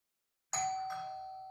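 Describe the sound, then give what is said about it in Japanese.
A two-tone intercom doorbell chime rings once after a moment of silence, a sharp onset at about half a second, with a second tone following and a sustained ring fading slowly, clear. “インターホンが鳴った。”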